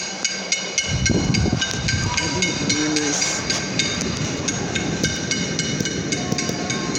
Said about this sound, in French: Estão escutando aí? Aí, ó. Eu queria ver aí. Aí, as meninas. Panelada daqui do Brasil. Brasil, batendo as panelas pro Bolsonaro.